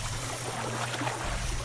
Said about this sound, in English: So you can hear the water, and I have to say the ambience is very good.